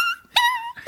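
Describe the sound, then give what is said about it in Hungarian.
A person's voice imitates a whimpering, crying dog: three high, nasal whines, the middle one held longest, loud with no other sounds around them. “Hát van ilyen sírókutya.”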